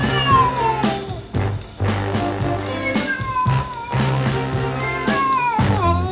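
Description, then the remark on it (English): A female cat meows loudly and repeatedly while being bathed in water and lathered up, several drawn-out, complaining cries, with a steady low background noise running underneath throughout. “But they say you're not supposed to give a cat a bath.”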